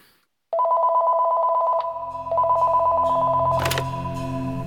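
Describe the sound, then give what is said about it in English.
A telephone rings loudly in two long, buzzing bursts with a short gap between them, followed by a brief click and a low hum that lingers in the background. “Phone call comes in the night before.”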